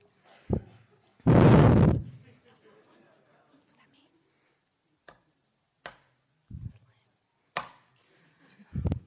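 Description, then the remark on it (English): A gavel raps sharply on a wooden block three times to open an evening meeting, each knock crisp and separate with pauses between, following an early louder burst of noise, over faint murmuring. “Okay, so I'm going to bang it three times and then give a very official, boring intro.”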